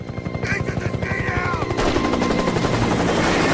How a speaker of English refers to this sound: The gunman in the helicopter rakes Nathanson with machine gun fire.